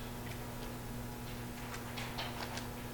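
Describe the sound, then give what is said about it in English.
A clock ticks steadily, soft, even clicks repeating several times with a faint electrical hum underneath and no one speaking. “That clock is racing, and I guess I'm not.”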